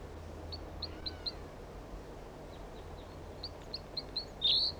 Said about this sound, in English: Juvenile bird.